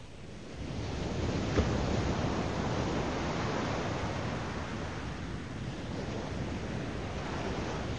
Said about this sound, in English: Relentlessly the Arctic Sea resounds upon the shore, and Mugo's court the waves report just as 10,000 years before.